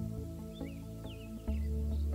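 Faint, scattered bird chirps sound here and there all around, a few short tweets spread over a few seconds, set against a steady, sustained low musical drone.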